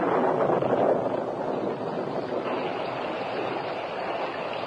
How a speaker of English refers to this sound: The rain had been falling for many days with intermittent thunder